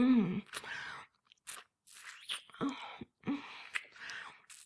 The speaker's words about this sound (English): Sucking, slurping, licking your big hard cock.